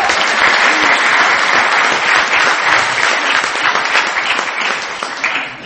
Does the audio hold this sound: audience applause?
yes